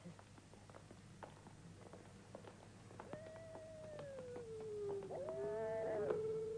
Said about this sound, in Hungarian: Félek a kutyától. Nem kutya, réti farkas.